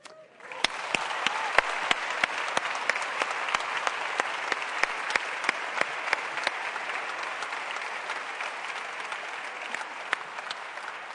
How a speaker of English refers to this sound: And with that, and a huge, huge applause and congratulations for such important work